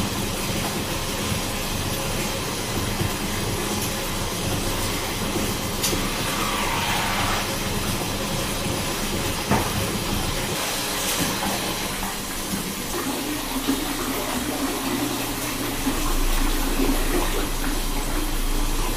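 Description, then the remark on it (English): Hot water runs steadily from a tap with a continuous rushing hiss after shaving. The flow shifts in tone partway through and deepens toward the end, with no talking. “Just as I finish shaving, the hot water goes.”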